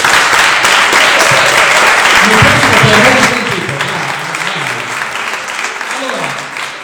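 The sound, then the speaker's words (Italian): An audience applauds steadily for Amor d'Angera, a dense, loud wash of many hands clapping that eases slightly after a few seconds, with voices briefly audible over it. “Per cui, gentilmente, almeno per Amor d'Angera, un bel applauso, grazie.”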